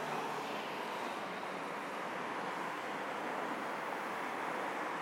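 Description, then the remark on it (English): Steady, dense roar of road traffic flowing past a crossing without pause, mostly moving right to left and left to right along the road to Richmond, a broad constant wash of engine and tyre noise with no voices and no distinct individual vehicles standing out. “I think this makes sense because the biggest flow of traffic seems to be going from right to left and left to right, which would be the road to Richmond.”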